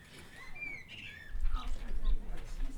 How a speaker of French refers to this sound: Donc nous sommes en duo avec Monsieur Merle.